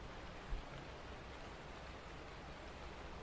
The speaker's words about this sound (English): Well, I could put on the TV, but I kinda like just the rain sound. It's nice, isn't it? Relaxing.